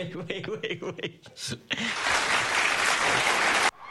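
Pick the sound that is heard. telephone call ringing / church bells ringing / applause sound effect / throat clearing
applause sound effect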